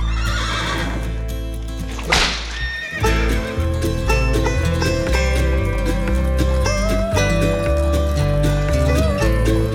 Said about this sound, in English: Outlaws race on our tail, and the horses rumble ground.